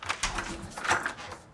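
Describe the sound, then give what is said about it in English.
A door opens with a few quick clicks and knocks from the latch and handle, followed by a brief creaking scrape, as someone answers the door to a visiting plumber. Moderately loud, with no voices. “sets down her craft and hurries to the door.”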